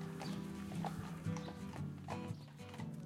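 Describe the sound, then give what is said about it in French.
Draft horses clip-clop at a steady walking rhythm over a continuous low rumble as they pull a caravan, Radio Roulotte, from which radio is made. “En fait, Radio Roulotte, c'est on veut faire de la radio dans une roulotte tirée par des chevaux de trait.”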